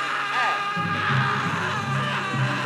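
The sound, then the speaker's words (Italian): A person lets out a loud, sustained scream lasting a couple of seconds as a sound test, strained and wavering in pitch, with a low hum underneath. “Anche un urlo, un urlo.”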